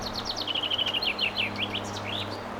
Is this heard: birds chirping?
yes